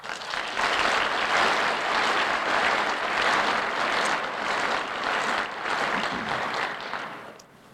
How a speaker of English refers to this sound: And I suggest we give our sponsors of this symposium a good hand of thankful applause.